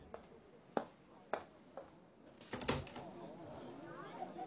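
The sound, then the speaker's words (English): A door is opened for a visitor: a few sharp knocks or clicks, then a louder clatter of the latch and door moving, set against quiet surroundings with faint rustling. “I was worried you weren't going to open the door.”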